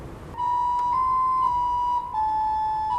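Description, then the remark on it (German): An organ's recorder (Blockflöte) stop, just pulled by the player, sounds a clear, flute-like high note held steadily, then steps down slightly to a second sustained note, with no voices alongside. “Okay, und Blockflöte hier, wenn ich das ziehe.”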